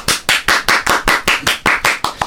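A short burst of applause: about eleven loud, sharp claps in a steady, even rhythm, crisp and bright, with no voices over them.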